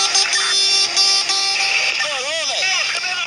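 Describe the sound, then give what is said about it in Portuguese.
A vehicle horn honks in loud, sustained blasts with a rich, buzzy tone as the driver drives off trying to warn colleagues, then gives way to wavering tones that rise and fall in pitch. “sai buzinando na tentativa de alertar os colegas.”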